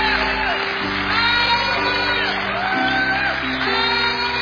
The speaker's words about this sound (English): And I want to say to you tonight, welcome into the family of God. Can we all just clap and just give a cheer tonight? Welcome to the family of God.